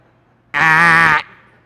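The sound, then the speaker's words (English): A single loud, nasal duck quack, drawn out for just over half a second and heard alone, leaving a faint tail as it fades. “Wrong chicken.”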